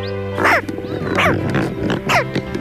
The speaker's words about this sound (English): Now, those aren't your neighbor's chihuahuas barking. Those are American white pelican nestlings, heard with some grunting grown-ups on their nesting grounds.